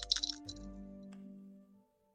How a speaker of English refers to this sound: With the little mini dice. Here we go. Into the Drist cup.